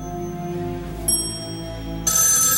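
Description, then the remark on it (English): A telephone rings in a suite, its bright bursts arriving about once a second over a steady low musical hum, fairly loud with no voices. “In the suite, David continues to ignore the phone.”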